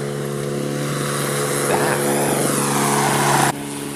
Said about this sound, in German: Muss ich nur gucken, wie ich an dem blöden Rasenmäher hier vorbeikomme.